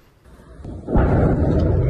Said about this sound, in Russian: Не назвала ни своих версий произошедшего, ни то, какое оружие туда могло достать, и вообще, что такие взрывы имели место.